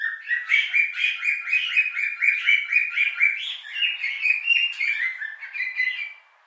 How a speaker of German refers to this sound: In diesem Zimmer halte ich 6 Nymphensittiche. Sie sind meiner Meinung nach die idealen Papageien. Nicht ständig am Schwatzen wie Wellensittiche, auch nicht mit deren Temperament eines alten Ehepaares. Nymphensittiche sind wie junge Verliebte.